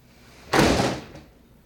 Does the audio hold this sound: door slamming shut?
yes